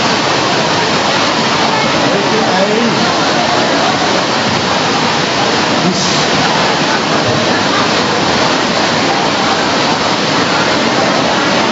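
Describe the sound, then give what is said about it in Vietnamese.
Heavy rain pours down in a steady, dense roar of hiss that never lets up, loud and unbroken for the whole stretch, with no clear voices rising above it. “Rồi, ngồi lẽ lên, con mưa hết bây giờ.”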